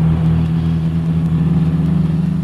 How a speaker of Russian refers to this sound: По скверной дороге на бешеной скорости промчалась большая американская машина, обдав нас пылью.